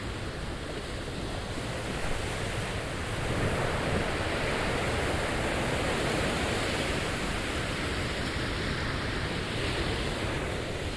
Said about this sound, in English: Kinda, you can kind of hear the wave crashing from left to right. I thought it's windy, but it's not.